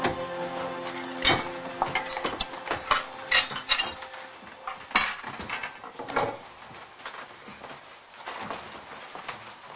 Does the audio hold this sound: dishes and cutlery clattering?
yes